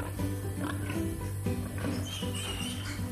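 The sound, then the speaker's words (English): Newborn piglets, born that morning, grunt and squeak in a farrowing pen on a pig farm, a steady overlapping chorus of small squeals and snuffles with a low, constant rumble underneath. “They were born this morning.”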